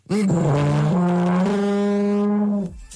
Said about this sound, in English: With such incredible talent such as my own, partaking in the busk, I'm doing the big blow on the tuba. And I'm doing incredibly well. I'm sure you'll agree. Have a listen. This is just the beginnings of it, right?